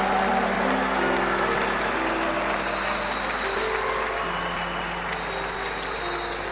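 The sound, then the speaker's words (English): A church audience claps excitedly for Jesus, a dense continuous wash of many hands at a fairly even loudness, with a low sustained hum of tones running beneath it and no voices. “You are clapping so much for Him.”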